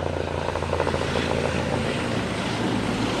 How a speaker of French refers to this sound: Là, il y a un hélicoptère du SAMU qui est en train de se poser, Michel Polacco.